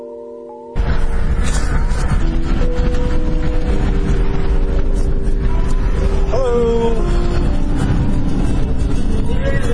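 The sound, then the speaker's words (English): Inside a moving car on a 91-degree day, about to exit the 405, a quieter hum jumps after a moment into a loud, steady roar of road and wind noise as the driver opens another window. The roar continues without a break. “Here, I'm in my car, and I'm going to open up another window here so I don't boil.”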